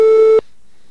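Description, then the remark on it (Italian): A loud, steady electronic telephone ringing tone, heard once on an outgoing call, holds for a brief moment and then cuts off into near silence. No one speaks. “Andiamo a telefonare quindi a Dickmond.”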